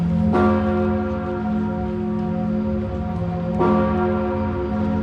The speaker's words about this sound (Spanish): Las campanas de Notre Dame de París resonaron el sábado anunciando la reapertura de la catedral más conocida del mundo, aquella que ha marcado con su figura imponente el paisaje de la capital francesa.